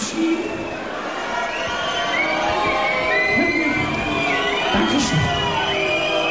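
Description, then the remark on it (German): An audience in a hall at a live stage show cheers loudly and continuously, with whoops and high shouts rising out of a dense wash of applause-like noise that stays steady throughout. “der Saal kocht.”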